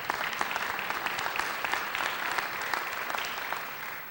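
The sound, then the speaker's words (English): A conference audience claps steadily for several seconds for the conference funders, a dense patter of many hands at an even, moderate loudness with no voices breaking through. “So why don't we give a round of applause to our funders.”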